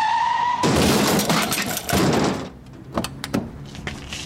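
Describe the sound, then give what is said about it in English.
A high tire squeal from braking gives way to a loud, noisy crunching crash of a deliberately staged car collision lasting about two seconds, followed by a few sharp scattered clinks of shattering glass and falling debris. “Operation Fake Car Crash.”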